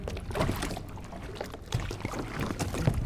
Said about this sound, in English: We're going to use one of the firefighters' boats. We're rowing across the lake? To the western wall of the cistern, yes.